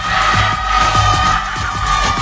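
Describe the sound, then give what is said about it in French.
An audience split into teams shouts and cheers together at a Fréquence Mistral radio event in a loud, sustained roar, with overlapping voices rising and falling throughout and a steady mid-pitched tone running underneath. “Ça crie un peu plus par là quand même, hein.”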